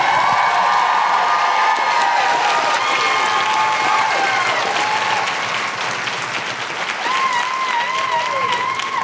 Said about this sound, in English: And keep that applause going.